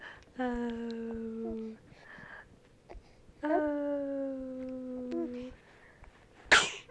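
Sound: baby coughing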